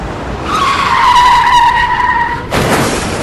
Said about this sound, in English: The wheels of her car became locked, and the vehicle continued to skid off the side of the road just prior to her vehicle reaching the overpass.